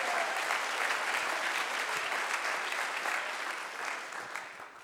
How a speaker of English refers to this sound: Clap your hands and give Him praise. Aplauden sus manos.